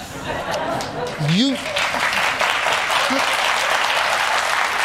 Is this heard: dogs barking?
no